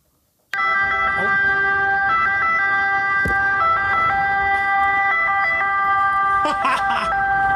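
An ambulance siren starts abruptly after a brief silence and blares loudly, its stacked tones stepping rapidly between pitches in a continuous wailing pattern.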